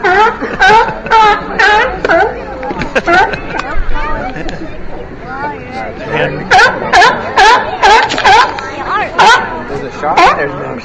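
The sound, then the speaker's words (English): California sea lions at the end of Pier 39 call over one another in a loud, ragged chorus of harsh, honking barks and groans, arriving in rapid overlapping bursts that rise and fall throughout, with a brief word of speech. “As you can hear, one of the other things that you'll find at the end of Pier 39 are the California sea lions.”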